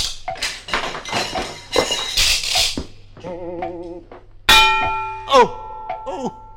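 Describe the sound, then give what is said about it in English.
A loud metallic clang rings out with a sustained, bell-like tone, preceded by a flurry of sharp knocks and a warbling, wobbling tone, like a cartoon bonk, as the swinging pendulum of a grandfather's clock hits someone on the head. “Oh, say, watch out for that swinging pendulum. We have to go through between ticks. It's very annoying if it hits you on the head.”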